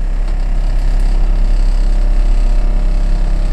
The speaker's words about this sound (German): Die 6 Elektromotoren geben ihr Bestes und übertragen ihre Schwingungen in den Führerstand.